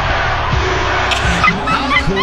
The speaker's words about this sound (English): Do you hear the decibels from that crowd? I mean, we have to play it. USA chant.